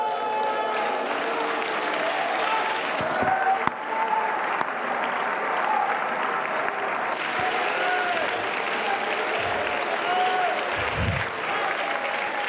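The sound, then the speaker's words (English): An audience claps steadily throughout, a dense, loud wash of overlapping handclaps with scattered voices calling out beneath it. “If you got faith, you ought to clap until your palms get red.”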